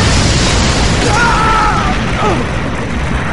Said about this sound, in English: The first explosion threw him off his feet onto something sharp and hard, and the next three tossed more of the building his way, debris as effective as any other form of shrapnel.